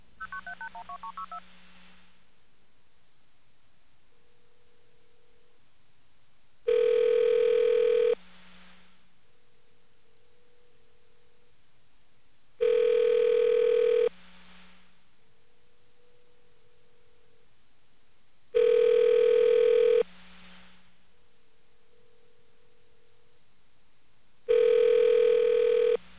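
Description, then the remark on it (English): A burst of telephone dialing tones opens as a call is placed to the National Security Agency, then the phone rings back in four evenly spaced, loud buzzing rings about six seconds apart, with quiet gaps between them and no voices. “See if the National Security Agency, first of all, answers the phone with National Security Agency, and if they will identify themselves after we connect with them.”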